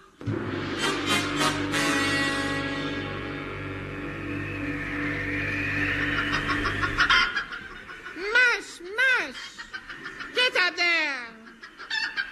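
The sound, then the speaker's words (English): A steady, buzzing drone for several seconds, then voices break into loud, squawky imitations of chicken clucking, standing for sled huskies doing chicken impressions, in quick, uneven bursts of rising and falling bawks. “Blue Bottle, tell those dogs to stop doing impressions of chickens.”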